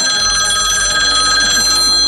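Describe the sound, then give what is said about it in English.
A telephone bell rings steadily in the evening, a bright metallic trill with rapid repeated strikes sustained for about two seconds, fairly loud and with no voices over it. “Call me back tonight.”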